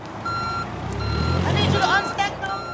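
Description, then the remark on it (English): A steady, repeating high-pitched reversing beep sounds from a forklift shifting pallets outside a church in Flint, over a low engine rumble, with clattering and a voice mixed into the busy outdoor background. “Outside Greater Holy Temple Church in Flint, a forklift is shifting pallets.”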